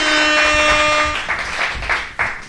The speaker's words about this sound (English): My guitarist is clapping instead of playing outro music. Play the outro music. Come on.